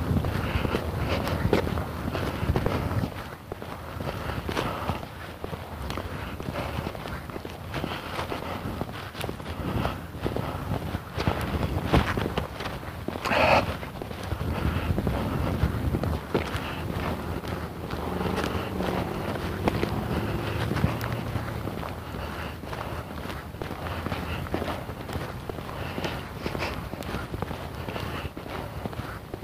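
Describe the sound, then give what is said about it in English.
Steady footsteps crunch along outdoors as a person walks for the whole stretch, fairly even in rhythm, over a continuous rumble of wind and background noise. “Maybe I put it after my walk so I can go home and warm up.”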